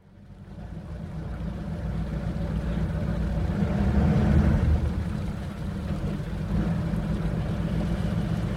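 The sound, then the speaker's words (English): A ferry's engine drones in a deep, steady rumble with a wash of wind and water over it as the boat makes the few-minute crossing of the 1,500-metre-wide channel from Paros to Antiparos, Greece, swelling slightly midway and continuing unbroken throughout. “A short ferry ride from the neighbouring island of Paros also helps slow the pace of life, even though the boat only takes a few minutes across the 1,500-metre-wide channel.”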